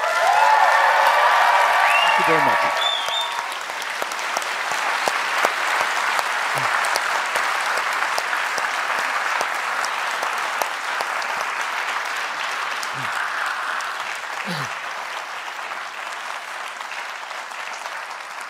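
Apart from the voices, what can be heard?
audience applause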